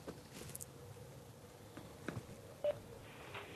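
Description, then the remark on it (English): A phone call from a caller in Albany, New York connecting, with a brief clear electronic tone and faint clicks over low background hiss; no one speaks. “Hey, we got a phone call here. Ben, let's bring that one in.”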